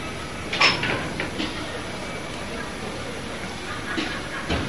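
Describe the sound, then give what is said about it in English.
A door is opened, with a short clack and a rattling slide early on, then a few soft knocks over a steady background hiss. “Now, open the door.”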